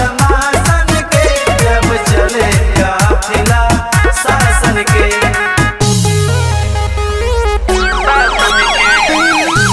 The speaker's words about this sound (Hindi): Road होला साफ बजे गाड़ी के हूटर, सुन के आवाज कहीं छिप जाले सूटर।